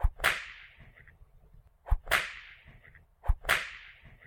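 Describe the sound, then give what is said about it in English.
Three sharp whip cracks as someone is being whipped, at a steady, evenly spaced pace, each a loud snapping crack with a bright hissing tail that fades quickly. No voices accompany them. “Stop whipping me.”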